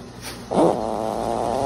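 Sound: snoring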